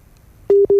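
A dropped WhatsApp call busy tone during a live radio broadcast: two steady electronic beeps at a single pitch, separated by a brief gap, loud and clear after a moment of quiet background hiss.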